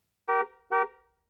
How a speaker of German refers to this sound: Da fährt ein Auto draußen vorbei und hupt.